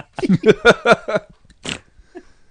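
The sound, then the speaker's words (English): A quick run of voiced, laugh-like bursts, then a single short, noisy snort through the nose, fairly loud, trailing off into quiet breathing. “Oh, someone ready? Snorted.”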